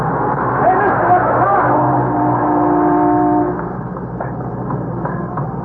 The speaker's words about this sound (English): I thought sure you were going to get hit by that car.